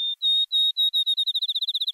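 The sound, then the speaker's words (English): A field sparrow sings alone: clear, sweet whistled notes begin slow and evenly spaced, then speed up into a rapid trill that climbs slightly in pitch, like a bouncing ball. “Field sparrows aren't as common today as they were in Aldo Leopold's day.”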